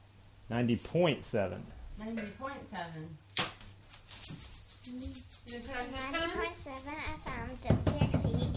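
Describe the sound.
A shaker rattles in quick, uneven bursts of bright, gritty shaking, mixed in with people talking over it.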